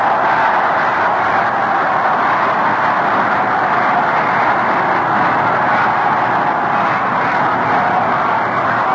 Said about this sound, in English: There's the signal. Listen to the applause. The Yankees take the field.